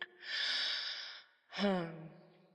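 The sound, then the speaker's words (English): A single sneeze during allergy season on a windy day: a drawn-out, breathy intake lasting about a second, then a sharp explosive burst that trails into a falling, voiced tail. It is fairly loud, with no talking over it. “Yes, let's just sit down here in the back and wait till your sneezing calms down.”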